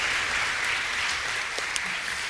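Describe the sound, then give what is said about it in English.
Steady audience applause thanking mothers at a Mother's Day event, a dense wash of many hands clapping at an even loudness throughout, with a few sharper individual claps standing out briefly. “Let's thank these moms one more time. Big hand clap.”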